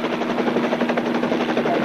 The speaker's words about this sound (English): I'm a helicopter pilot. I'm flying above your house right now.